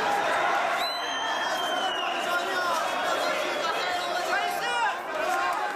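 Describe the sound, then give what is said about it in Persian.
A large crowd of Afghan men and women at Mashhad airport shouts and cheers continuously to welcome the Afghanistan national football team players, a dense roar of many voices with occasional higher whoops rising above the steady noise. “تعداد کثیری از افغان‌ها هم از زن و مرد به استقبال بازیکنان تیم ملی به میدان هوایی مشهد آمده و به طرفداری و تشویق بازیکنان تیم ملی افغانستان نعره می‌کشیدند.”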